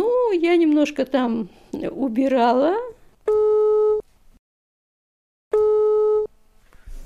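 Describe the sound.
A voice speaks briefly, then a telephone line tone sounds twice: two steady, buzzing electronic tones of under a second each, separated by a pause of silence, clear and fairly loud.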